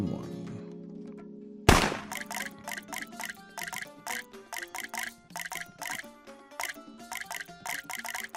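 A steady tone gives way to a sharp hit, then a quick run of plinking water drops falls one after another in an uneven rhythm, fairly loud. Two faucets drip water drop by drop in a game where the listener must guess which faucet dropped more.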